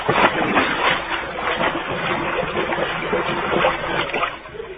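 A new Cadillac car with fish tails crashes into a swimming pool with a big splash and sinks to the bottom, followed by several seconds of loud, churning, sloshing water, dense, with no voices.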